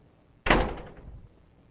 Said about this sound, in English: I said, I believe if I push the door, it'll open. But I didn't push it to see.